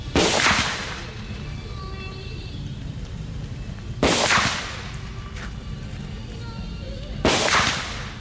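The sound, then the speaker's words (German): Three loud gunshots from real Vietnam War-era weapons crack out several seconds apart at a shooting range at the Cu Chi Tunnels in Vietnam, fired at tin elephant and tiger targets, each with a short echoing tail over a steady outdoor background rumble. No one speaks. “Geschossen wird mit echten Kriegswaffen von damals. Ziel sind Blechelefanten und Blechtiger.”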